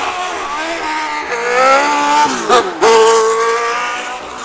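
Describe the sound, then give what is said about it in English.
A Formula 1 racing car roars past at high speed in the dark, its high engine whine climbing and then dropping sharply in pitch as it goes by. The sound is loud, with no talking. “Just a bit of blur of the car.”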